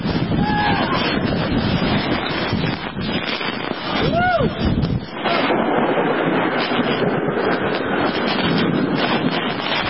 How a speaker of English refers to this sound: There's a hurricane going out outside, and you can watch this windswept thing. We have it linked up in the show notes. But, man, listen to the sound out there.